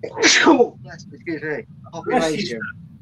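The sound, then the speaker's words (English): A single sharp sneeze bursts out near the start, followed by a few moments of people talking. “Bless you.”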